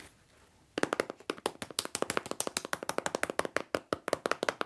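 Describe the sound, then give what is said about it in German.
Pencils drum rapidly on a pencil case, a steady stream of sharp, crisp taps starting after a brief quiet moment and continuing in a fast, even rhythm with no talking. “Das ist eine richtige Trommel, oder? Ja. Nimm mal zwei Stifte.”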